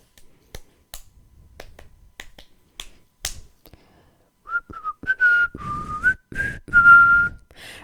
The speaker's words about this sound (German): Pfeif mal dabei, irgendein Song. Oh Gott, das ist ein netter Pfeifen.